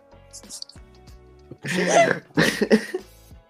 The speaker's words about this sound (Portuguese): Cada tosse minha é uma extremidade do meu corpo pula. Hoje em dia foi meu coração.